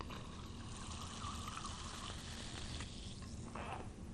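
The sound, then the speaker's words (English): Steady pouring of carbonated water into a glass holding one ounce of syrup from a syrup urn, to make a vintage 1896 Coca-Cola, a continuous fizzy hiss with gurgling that runs for about four seconds. No one speaks. “You remove the glass, add the carbonated water.”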